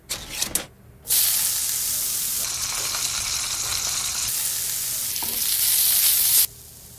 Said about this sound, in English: Spam. Don't knock it till you've fried it. Sizzle, pork